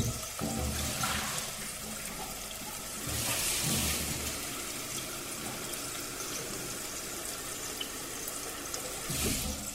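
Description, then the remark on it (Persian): Water runs steadily into a stainless steel pot, being filled to bring it to a boil, with a continuous hissing rush, swelling louder in brief surges partway through and again near the end. No voices are heard. “کاری که باید بکنم و یادم نره اینه که من یکم آب بذارم جوش بیاد.”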